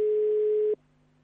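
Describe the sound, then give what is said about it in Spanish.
A telephone line tone for an incoming call on line 3 rings once, a steady, fairly loud electronic beep lasting under a second before cutting off abruptly, leaving only a faint low hum on the line. “Bueno, vamos a intentar, ¿la producción está llamando? Ahí va, sí. Línea 3, atención.”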